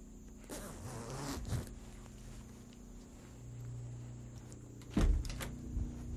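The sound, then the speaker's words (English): A clothing zipper is zipped up in a couple of quick, raspy strokes, with a brief pause and another short zip afterward; no one speaks. “Zip up the zipper.”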